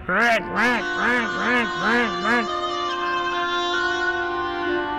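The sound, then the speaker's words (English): A duck quacks angrily in a quick burst of five loud, nasal, rising-and-falling calls, followed by a steady sustained tone that fades out. No one speaks. “While the duck quacked angrily at the cat,”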